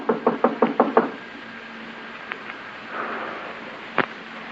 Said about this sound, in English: Knock again. He's in.